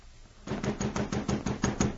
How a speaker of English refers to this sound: Well, along about midnight, I heard someone pounding on the door. I got up out of bed and went to see who it was.